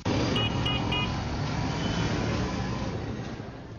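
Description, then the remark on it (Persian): Dense city traffic in Jalalabad, with rickshaws and cars, rumbles steadily with engine noise, while three short car horn beeps sound near the start before the roar of vehicles continues alone. “صدای دلخراش ریکشاها، هارن های مختلف و بلند موترها در داخل شهر غیر قابل تحمل است”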